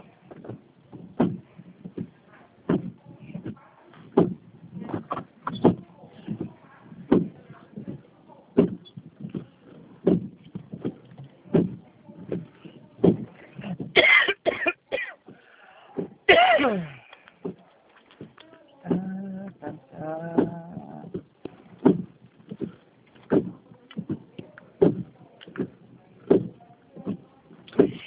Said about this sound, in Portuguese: Deixa só um minutinho estacionar o carro.